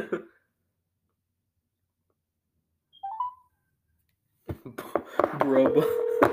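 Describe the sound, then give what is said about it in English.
A phone call to a brother being placed: a short electronic blip, a pause, then a steady ringing tone with busy noise and a voice mixed in over the last couple of seconds. “I'm gonna call my brother.”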